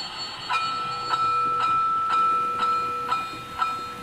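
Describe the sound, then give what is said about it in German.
A small model train runs along its track with a steady electric motor whine and regular clicks at the rail joints about twice a second, with no voices. “Ja, und das, ab und zu gehe ich mal bei, schalte das Ding mal ein, dann läuft das mal 5, 6, 7, 8 Runden und dann mache ich es wieder aus.”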